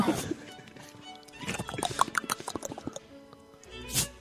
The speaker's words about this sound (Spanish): ¿Qué haces? Caballo. ¿El caballo? Caballo, tío.